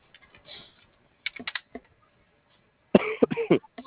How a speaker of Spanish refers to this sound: Ay, no te ahogues. ¿Ya tomas algo para la tos?